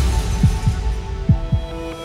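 A heartbeat thuds twice in a lub-dub rhythm, each beat a pair of deep, low thumps, set against a steady humming drone with faint sustained tones.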